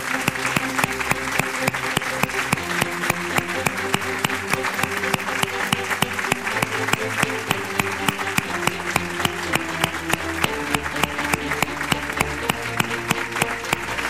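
Loud, sustained audience applause fills the whole stretch, the clapping falling into a steady rhythmic beat over music playing underneath, with no one speaking.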